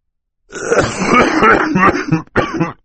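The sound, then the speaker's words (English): A man coughs into a handkerchief in a rough, sustained fit lasting about two seconds, followed after a brief pause by one more short cough, fairly loud with no talking. “The Baudelaires waited while he coughed into it before returning it to his pocket.”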